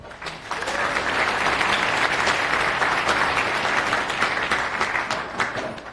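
An audience applauds steadily for several seconds, a dense, even wash of many hands clapping at once that holds its level throughout and tapers only slightly at the end.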